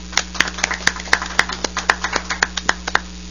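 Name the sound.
round of applause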